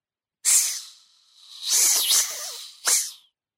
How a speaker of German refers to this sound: Sie glitt über meinen Fuß. Erschrocken zog ich das Bein weg, aber die Schlange hatte sich schon um meinen Knöchel geringelt und wand sich an meiner Wade nach oben. Das Zischen wurde lauter, bedrohlicher.